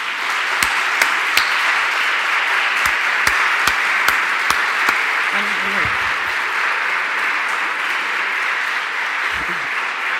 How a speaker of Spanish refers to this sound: Muy bien, muchas gracias. Los vamos a premiar con un gran aplauso al equipo de la cátedra, que pediría que se vieran.